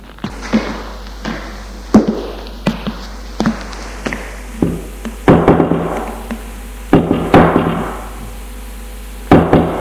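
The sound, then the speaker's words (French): Firm knocking on an apartment door without a nameplate on the top floor of a building, by a young woman of about 20, delivered in several short bursts of sharp raps with brief pauses between them, fairly loud with a hollow ring after each hit. No one speaks. “Elle va tout de même frapper aux 2 portes sans nom.”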